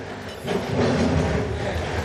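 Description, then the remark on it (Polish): An excavator working on Opolska Street, a street along the river flooded by a flood wave, where people are clearing mud from their homes, drones in a steady, heavy low rumble with a rough mechanical texture, swelling slightly after the first half-second and holding for about two seconds. No one speaks. “Słyszymy pracującą tu koparkę.”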